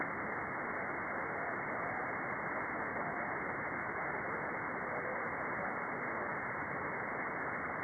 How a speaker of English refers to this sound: That's just static.